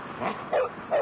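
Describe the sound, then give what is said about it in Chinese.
The dog Bremen barks in a short series of three loud, rough barks at an even pace, the last two strongest, with no voices. “这个时候布莱梅知道了，他在向车把式喊着。”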